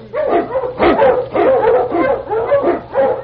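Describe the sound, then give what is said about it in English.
A husky sled dog, urged to run in The Challenge of the Yukon, barks and yips excitedly in a rapid, continuous string of loud calls with a whining edge, about five bursts in quick succession and no one talking. “Husky! Run, you husky!”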